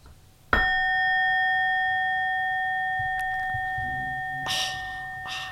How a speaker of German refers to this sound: Gong nochmal bitte.